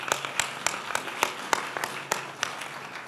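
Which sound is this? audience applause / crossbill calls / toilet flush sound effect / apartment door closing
audience applause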